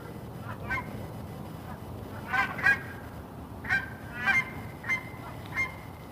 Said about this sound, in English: It's about 20 geese renegotiating their V, apparently.